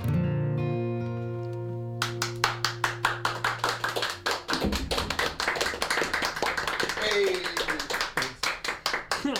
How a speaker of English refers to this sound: Maybe that clap came in a little bit quick.